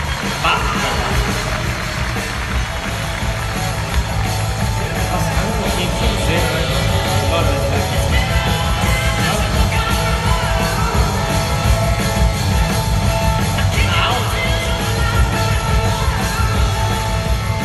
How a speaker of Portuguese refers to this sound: Salve de palmas de novo